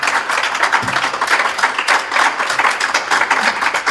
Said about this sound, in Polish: Nie chcę być złośliwy ani zazdrosny, ale czy ty ostatnio w ogóle otrzymałeś takie oklaski gdziekolwiek?